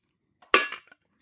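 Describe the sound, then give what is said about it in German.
Ice cubes clink against a glass: a soft tick, then one bright, ringing knock that fades within a quarter second, followed by a faint final tap. No voices. “Ich habe Eiswürfel.”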